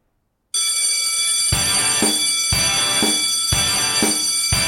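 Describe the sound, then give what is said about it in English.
A bell rings loudly in steady strokes about a second apart, four clear strikes over a bright, sustained metallic ringing that never fully fades between them, marking the time as 4:20. No one speaks. “Well, that bell, that's the rare one. It's only one out of like 90 that has the bell.”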